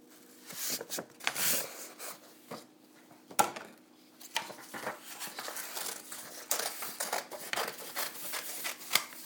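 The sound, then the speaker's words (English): Rustling and crinkling of paper being handled and folded, with irregular scraping rubs and sharp creases over several seconds, no voices. “I messed up the paper.”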